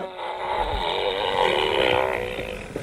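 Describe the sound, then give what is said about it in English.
A long, buzzing toy fart sound effect from the Gas Out game toy, which builds pressure with each press, plays for about three seconds. Its reedy pitch wobbles up and down at steady loudness before ending with a small pop. “Make me fart and you're out.”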